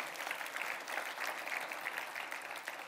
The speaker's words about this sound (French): Combien peuvent applaudir notre Dieu qui comble nos manquements?